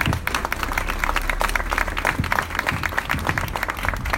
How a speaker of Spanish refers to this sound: un aplauso para ellos.